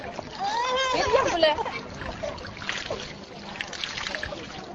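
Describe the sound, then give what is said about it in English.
Water splashes and sloshes steadily as a mother bathes her son in a small river in the Cantelet camp, while voices, including what sounds like a young child's, rise over the watery noise. “is bathing their son in a small river in the Cantelet camp.”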